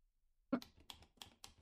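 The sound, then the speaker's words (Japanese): A typewriter clacks out a short burst of about five sharp key strikes in an uneven rhythm, fairly crisp, with no voices present. “何？タイプライター？文字、打ってるね。”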